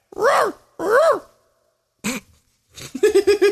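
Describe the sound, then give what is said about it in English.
A person imitates a dog barking as a sound effect for a video game, two loud, drawn-out woofs, a short yelp, then a quick run of choppy, yappy vocal bursts. “So we have my grunts, my barks, and me as the sausage vendor.”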